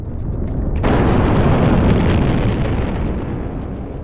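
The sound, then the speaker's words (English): A loud, deep explosion sound effect depicting the supernova that formed the Crab Nebula in 1054 AD bursts in after a low rumble, then rolls on as a heavy, roaring boom that slowly fades over several seconds, with no voices. “The supernova explosion was so bright that it could be seen during the daytime and appeared as a second sun.”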